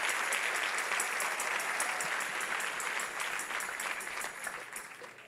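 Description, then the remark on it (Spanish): A crowd applauding steadily, a dense wash of many hands clapping at once, with a few sharper individual claps standing out. The clapping stays fairly even, fading slightly toward the end. “Ay, Dios mío, si ese es el aplauso, dáselo más fuerte.”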